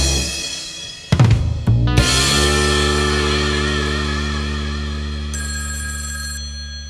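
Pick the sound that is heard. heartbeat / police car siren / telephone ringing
telephone ringing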